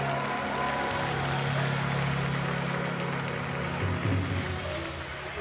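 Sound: audience clapping hands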